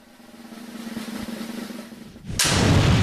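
A rapid drum roll builds steadily in volume for a couple of seconds, then breaks into a loud, bright crash that rings on to the end, with no voices.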